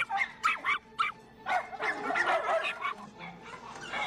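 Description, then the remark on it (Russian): A terrier that has jumped out of its cage and a St Bernard puppy in its cage bark back and forth while facing each other. A few sharp, separate yaps build into a loud, dense run of overlapping barking, with no one talking. “Выпрыгнув из клетки, терьер подходит к клетке со щенком сенбернара. Стоя друг напротив друга, они лают.”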